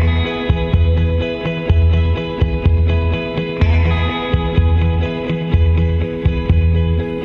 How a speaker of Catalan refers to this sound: són un trio i són de Westchester, Pennsylvania, i no trobo gaire més informació. Toc una espècie de rock així psicodèlic